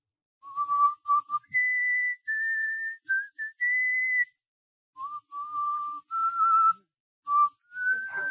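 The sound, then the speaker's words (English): A man whistles a slow, clear melody, sustained notes rising and falling in short phrases with brief pauses between them, alone with no talking. “…, do you know how to whistle? Sure. Let me hear your whistle coming through the rye.”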